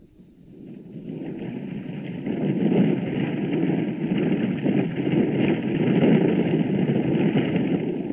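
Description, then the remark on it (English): A huge helicopter landing on a sandy beach to offload supplies during an oil spill response: its heavy engine roar swells over the first couple of seconds, then holds as a loud, steady rumble with a thin high whine running above it, no voices. “The huge chopper lands on a sandy beach to offload supplies.”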